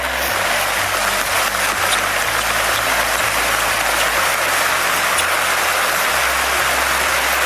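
A large crowd applauds steadily, a dense, unbroken wash of clapping that stays loud and even for the whole stretch, with no voices heard over it.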